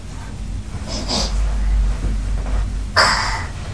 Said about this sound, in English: Who's snoring loud? I'm not.